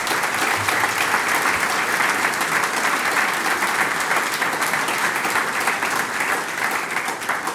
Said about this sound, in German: Vom Wind getragen, aber von Applaus begleitet, darf ich jetzt den Herrn Bürgermeister, den Gregor Löffler, zu mir auf die Bühne bitten für ein Interview. Applaus bitte sehr.